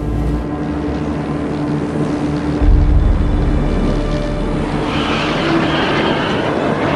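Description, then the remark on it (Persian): An airplane descending and landing on an airport runway in Ahvaz at night: a loud, steady engine roar with deep rumble, a heavier low thump partway through, then a brighter hissing whine building toward the end. “هواپیما آرام ارتفاعش را کم کرد و روی باند فرودگاه نشست.”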